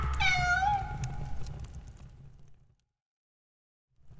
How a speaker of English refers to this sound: A cat.